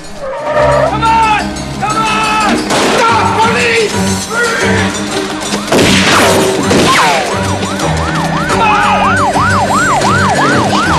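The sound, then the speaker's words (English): A police car siren wails in quick, repeating rising-and-falling sweeps, loud, taking over in the second half after a dense, busy stretch of music and action noise, as a police car pulls up where a getaway van has just driven off. “The getaway van drives away and a police car stops in its place.”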